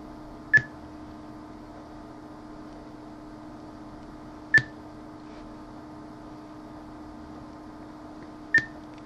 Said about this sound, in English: As the beeps continue to get higher and higher pitched. And it's done.